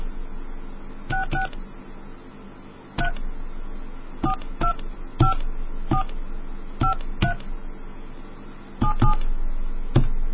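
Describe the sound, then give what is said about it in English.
A series of telephone touch-tone keypad beeps as a call is dialed, about fourteen short dual-pitched tones arriving in irregular bursts, some in quick pairs, over a low background hum with no voices. “Hey, call back and let's see if that reset your dial tones.”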